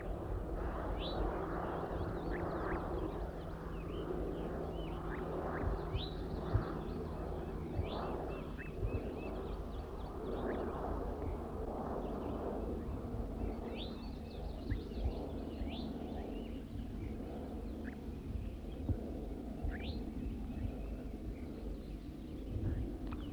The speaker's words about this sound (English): Wild bird's now giving zezer notes. Recording the wild bird a little bit louder now. Recording the wild bird.